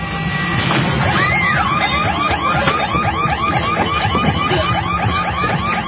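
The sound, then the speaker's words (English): A loud electronic home security alarm in a Brinks Home Security (now Broadview Security) advertisement shrieks in rapid, repeating warbles throughout, with a heavy crashing impact near the start as a man smashes in a door. No one speaks. “He just smashed in my door.”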